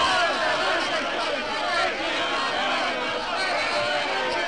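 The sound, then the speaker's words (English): A dense crowd of torch-bearing townspeople murmurs and shouts in a continuous, loud babble of many overlapping voices, swelling in numbers as more and more townspeople join in, steady and unbroken throughout without any clear individual words. “The crowd swells in numbers as more and more torch-bearing townspeople join in.”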